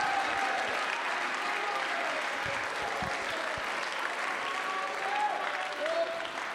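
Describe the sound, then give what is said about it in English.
A church audience claps steadily and continuously, a dense wash of many hands with no clear individual beats, sustained at an even loudness from start to finish, with faint voices mixed underneath. “Oh, clap your hands, lift your voice, magnify God.”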